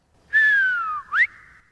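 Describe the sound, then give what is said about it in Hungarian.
A loud, clear shepherd's whistle rings out alone: a long note sliding downward, then a quick sharp upward flick, like a calling signal, fading off afterward. “De ha azért füttyentenék egyet juhászok módjára, mindjárt előjönne szívem fájdalmára.”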